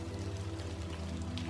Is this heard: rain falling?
yes